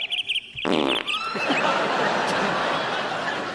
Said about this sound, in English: that has now been gassed, effectively, by the fart